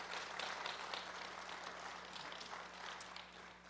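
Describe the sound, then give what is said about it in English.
A church audience applauds to honor their Associate Pastor Emeritus, Prentice Woods, a dense wash of many hands clapping at once that holds a fairly even, moderate level throughout before easing slightly at the end. “He's been, yeah, you can clap for him.”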